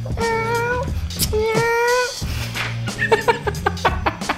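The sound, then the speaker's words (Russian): A person imitates a kitten with two drawn-out, high-pitched meows, followed by a run of shorter squeaky mews, fairly loud over a low steady background. “Я могу изображать котенка.”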